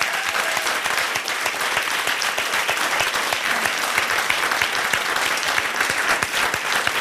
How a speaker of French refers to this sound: On les applaudit.